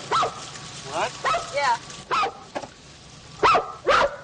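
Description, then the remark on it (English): A dog gives a series of short, high barks and yips, about half a dozen in irregular bursts, moderately loud, with quieter gaps between them. “What was he before he became a dog?”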